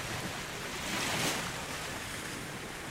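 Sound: sea waves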